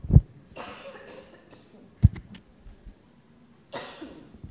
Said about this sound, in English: I'm going to cough into my microphone.